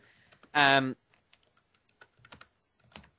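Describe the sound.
Computer keyboard typing in scattered, irregular bursts of clicks as a person searches something up, following a brief loud voiced sound near the start; the keystrokes are sparse rather than a steady stream.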